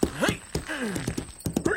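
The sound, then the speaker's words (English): Horse hooves clop loudly in an uneven run of sharp knocks as a horse is ridden off for Paul Revere's midnight ride, while swooping, whinny-like tonal cries rise and fall over them. “Revere, Levine, just so you ride a horse good.”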